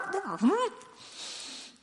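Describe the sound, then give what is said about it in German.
A voice imitates a child's unintelligible speech to its mother: a brief burst of wavering, sing-song syllables with swooping pitch, fairly loud, then fading into a soft breathy tail. “Das, was das Kind sagte, blieb für mich unverständlich. Das hörte sich dann für mich ungefähr so an.”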